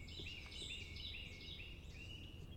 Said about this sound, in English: Well, there's a Carolina wren belting his heart out right now.